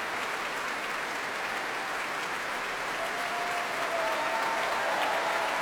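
Sustained applause from a large concert hall audience for an orchestra and its conductor after the performance, a dense, steady wash of clapping with a few faint cheers and whistles rising above it toward the end.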